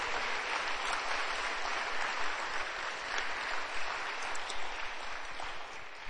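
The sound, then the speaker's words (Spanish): A crowd claps steadily for several seconds in applause to God, a dense, sustained wash of applause from many hands, with no voices rising above it. “Damos un aplauso a Dios.”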